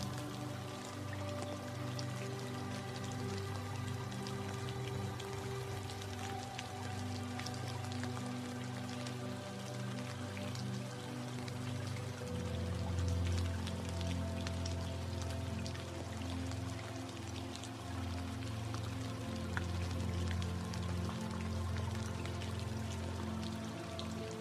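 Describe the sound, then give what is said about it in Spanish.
Steady rain falls outside, a continuous soft patter of drops with a low, even rumble beneath, unchanging in level throughout, with no voices present. “Nota cómo el sonido de esta lluvia te limpia por dentro.”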